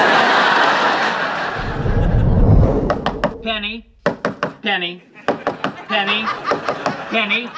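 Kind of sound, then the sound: impact, knocking on a door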